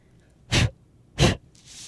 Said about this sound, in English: And just like that, it's all gone. What happens when I rub that eraser over my drawing is that the eraser is rubbing those graphite marks right off the paper.